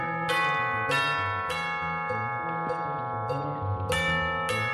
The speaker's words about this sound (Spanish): Sería increíble incluirlas y aparecieron las campanas tubulares. Pues sí. Estas, mira.